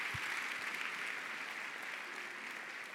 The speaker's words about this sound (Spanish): Un aplauso al Señor.